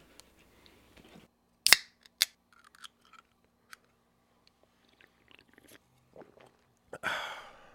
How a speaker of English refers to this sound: Let's take a sip break real quick. Sure. We'll take a sip break.